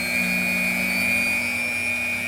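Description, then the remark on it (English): A lab blender at the University of Arizona, used in a project studying plant communication, runs at a steady pitch, its motor giving a constant whirring hum with a thin high whine on top, holding the same loudness throughout with no talking. “The project is just getting started, which means plenty of blender noises.”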